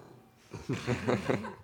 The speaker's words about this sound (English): Deuce is fast asleep on a pile of old clothes. Snoring and beat the band.